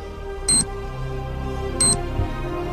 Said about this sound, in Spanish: ¿qué es ese pitido que se escucha? Piluca, apaga el móvil